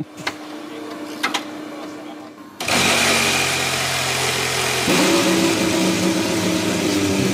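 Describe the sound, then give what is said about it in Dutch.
The engine of the new Mercedes Formula 1 car fires up: a couple of faint clicks in near silence, then a sudden loud roar that settles into a steady, harsh idle, shifting tone slightly partway through. “En dan wordt die motor van de nieuwe Formule 1 auto gestart.”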